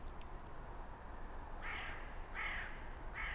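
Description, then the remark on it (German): A bird flying around nearby gives three harsh, raspy calls in steady succession, each roughly half a second long, over a constant background hiss of outdoor noise. “Ein Vogel, der in der Nähe herumfliegt.”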